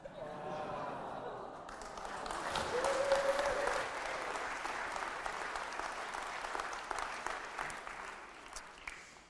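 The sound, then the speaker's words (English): A large audience at a Christmas church service bursts into sustained applause, a dense wash of clapping that swells over the first few seconds and holds steady, with a brief voice rising above it before fading. “I'm not even sure you deserve a clap.”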